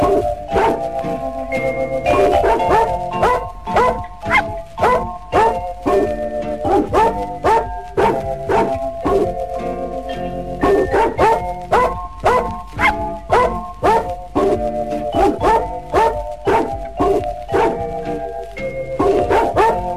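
Rhythmic dog barks pitched to form a bouncy song melody, each bark hitting a note in quick succession, steady and loud over a light musical backing with no talking.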